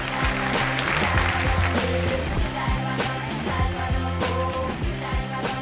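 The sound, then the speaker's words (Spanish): A bright brass fanfare plays a stepping, triumphant melody while steady applause fills the background for several seconds, both loud and continuous with no talking, marking the winner of a birthday piñata. “Y por cierto, qué susto, qué fanfarrias y aplausos, porque tenemos ganador de la piñata cumpleañera.”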